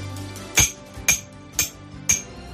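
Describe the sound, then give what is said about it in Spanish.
A hammer strikes four times at a steady, even pace, each blow a sharp, ringing metallic clank, loud with no voices. “Así, como si un martillo golpease tu cabeza constantemente durante días y días.”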